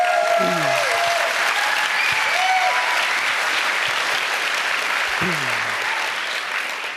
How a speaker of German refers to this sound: Genau, der Applaus stellvertretend auch an meine großartigen Kolleginnen